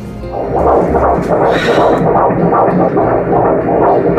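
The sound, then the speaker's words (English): A baby boy's heartbeat on an ultrasound monitor, a rapid, steady whooshing throb repeating several times a second, loud with a continuous hum underneath and no talking. “Let's hear his heartbeat.”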